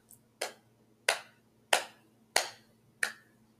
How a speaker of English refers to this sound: Here, like, can you, like, clap in a beat?